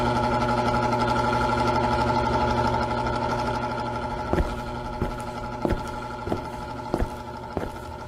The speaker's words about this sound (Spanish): ¿Ese ruido, Arturo? Tuve que prender el ventilador. ¿Cómo que tuviste que prender el ventilador? Sí, Jimena, tuve que prender el ventilador, hace mucho calor.